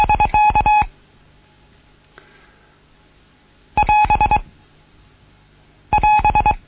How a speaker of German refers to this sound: Wir erkennen das Spruchendezeichen. Wenn der Spruch zu Ende ist. Und das Verkehrsendezeichen. Das wäre das Neue heute.